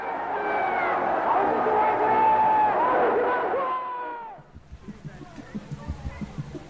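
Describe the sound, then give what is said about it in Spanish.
A large crowd at the Ninth Congress of the Communist Party in China shouts and cries out together in collective hysteria: a dense, high-pitched roar of overlapping voices for about four seconds, then breaks off into quieter murmuring with scattered sharp claps. “Gritos e histeria colectiva.”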